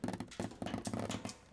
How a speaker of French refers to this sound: Et des filets qui cognent contre la paroi.